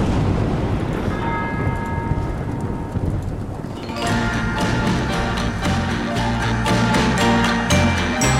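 A church bell tolls over a rumbling backdrop of rain and thunder at the start of a song, then a loud full band crashes in halfway through and carries on to the end.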